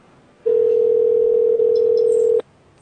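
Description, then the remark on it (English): A phone's ringing tone sounds once as a steady, unbroken hum lasting about two seconds, clear and moderately loud, then stops abruptly, leaving near silence with no voices. “it's still ringing. It's still ringing.”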